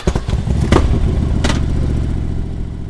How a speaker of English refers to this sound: So, with those statistics in mind and a police motorcycle escort to stop traffic on the roads from the stadium to downtown Tallahassee, a group of about a dozen cyclists set off.